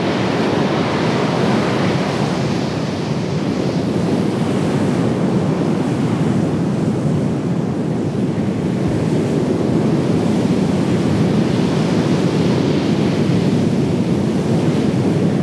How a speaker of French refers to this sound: Le 19 mars, la tempête frappe à nouveau la mer du Nord.